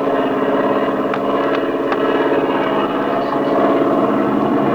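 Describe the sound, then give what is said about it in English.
A steady, loud droning engine hum of a propeller plane in flight fills the whole stretch, with a few faint clicks over the continuous roar. The overheating engine is burning the paint off its cylinders. “You can't run the engine this way. It'll ruin it.”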